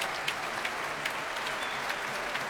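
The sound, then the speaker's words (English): Steady applause from a large concert audience calling for a second encore as conductor Manfred Honeck returns, a dense continuous patter of many hands clapping with occasional sharper claps standing out, sustained at an even level with no voices. “Well, applause there for”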